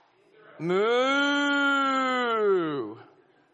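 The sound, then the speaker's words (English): A person imitates a cow with one long, loud, drawn-out moo lasting about two seconds as the punchline of an interrupting-cow knock-knock joke, steady, with a slight dip as it trails off. “Interrupting cow.”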